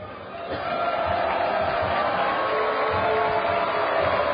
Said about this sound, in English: The booing you're hearing right now is the, and now the cheering. Well, West Ottawa was doing the dive drill, and then Holland just did their version of the dive drill.